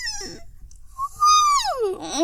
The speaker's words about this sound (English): And I yawn.